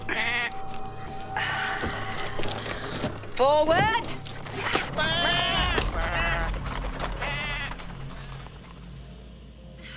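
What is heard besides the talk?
goats bleating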